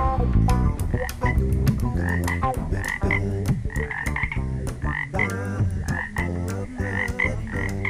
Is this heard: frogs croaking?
yes